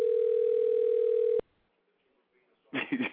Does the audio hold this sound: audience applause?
no